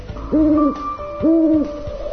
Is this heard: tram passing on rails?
no